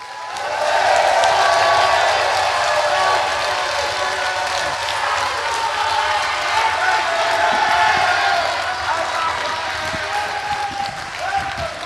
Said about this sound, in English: Ladies and gentlemen, can I just have one big, massive round of applause for Jake Davis and Ian Softley?